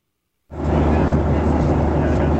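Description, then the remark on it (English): After a brief silence, a steady, dense roar of airplane cabin noise begins aboard a Southwest airplane in flight following the eclipse's path of totality, heard through a band-limited phone line; a constant loud drone with one tiny dropout partway through. “is on a Southwest airplane following the path of totality.”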